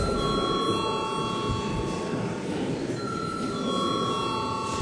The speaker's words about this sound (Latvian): Paldies, lūdzu zvanu.